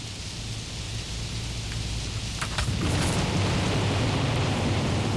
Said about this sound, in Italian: Chiaramente inizia con la tempesta, eh?